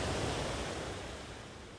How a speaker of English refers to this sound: Listen to those waves. The cruel, mocking waves.